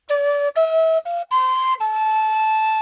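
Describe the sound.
A person whistles a song's lead melody: five held notes stepping up and down in pitch, with brief gaps between the first few, clear and fairly loud with no talking.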